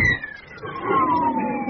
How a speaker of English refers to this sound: The engine scream you will now hear is a Vampire jet of the Orange City Air passing close overhead at a ground speed of 560 miles an hour.